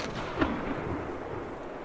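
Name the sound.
gunshot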